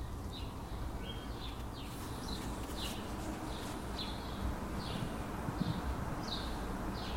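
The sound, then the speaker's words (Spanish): Birds chirp outdoors in a loose series of short, high notes, fairly faint, over a steady background hiss of wind and open-air ambience, recorded around 5 in the afternoon. No one speaks. “Se oyen pájaros.”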